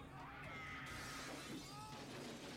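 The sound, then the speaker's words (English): A glass window smashes when hit with a chair, bursting into a loud shattering crash with scattered tinkling shards spilling over a couple of seconds, no voices present. “See, if this was made today, that glass would be bulletproof. Yeah, they wouldn't have been able to break it with a chair.”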